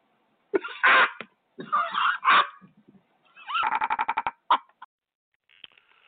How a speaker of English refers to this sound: Sorry, I'm always coughing. Have you noticed? I apologize, but maybe I just don't have anything to apologize for, but it's part of nature when I'm coughing, you know.